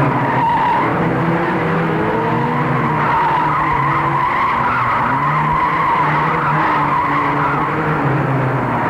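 A car skids with tires squealing in a long, loud, wavering screech over a rumbling engine, sustained for the whole stretch with no voices.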